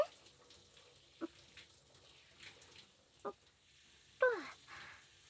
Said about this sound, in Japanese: 軽く流したから、次はソープに合わせて。もう泡泡になっちゃった。じゃあ、これで洗ってくからね。